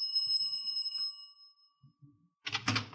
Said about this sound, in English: I could hear voices behind the door. I rang the bell.